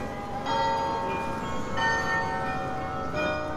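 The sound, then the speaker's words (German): A carillon player warms up high in the tower of the old weigh house in Alkmaar on a Friday morning shortly before 9:30; several overlapping bell tones struck in succession with long, shimmering decay, reverberant, with no voices present. “Der Glockenspieler hoch oben im Turm des alten Wagenhauses spielt sich ein.”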